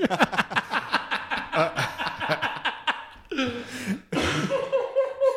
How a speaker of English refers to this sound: I'm like coughing. I'm laughing so I'm going to lose a goddamn lung.